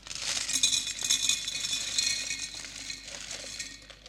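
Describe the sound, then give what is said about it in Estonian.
Small stones rattle and clink steadily as they are poured into a glass jar, a continuous bright, gritty clatter lasting several seconds with no voices. “hakkan nüüd siia purgi sisse igasuguseid tegevusi sisse valama, mis meie elu täidavad.”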